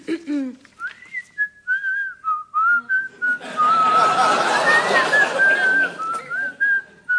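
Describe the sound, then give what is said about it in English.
A woman whistles a tune, a clear, steady melody of held and sliding notes running throughout, with a burst of broad rustling noise beneath it midway. “Madam, will you please stop that whistling?”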